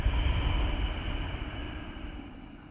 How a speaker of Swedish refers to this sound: Vi tar 3-5 andetag till. Ujjayi andetag med det där lätta motståndet i halsen. Andas in. Andas ut.